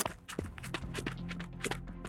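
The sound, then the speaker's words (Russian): Quick running footsteps of a girl running across a vacant lot to fetch ice cream, a string of sharp, fairly loud thuds landing in an uneven rapid rhythm over a steady low hum, with no voices. “Девочка побежала за мороженым через пустырь.”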